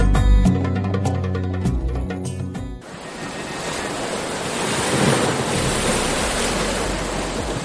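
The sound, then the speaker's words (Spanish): A short burst of music cuts off and gives way to a steady roar of ocean surf washing onto the shore, swelling slightly midway, with a windy hiss and no voices. “En Radio 3 abrimos un espacio situado frente al mar donde poder disfrutar de las mejores vistas”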